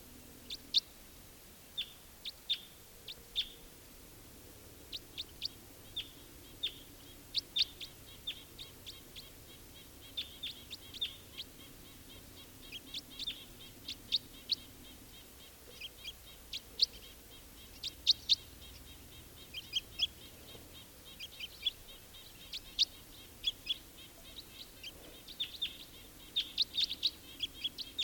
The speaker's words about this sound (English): Here's that wild bird again, giving flight calls.